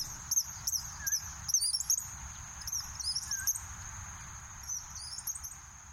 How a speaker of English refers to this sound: Here's a recording of eastern kingbirds that were hawking for flying insects over the marsh.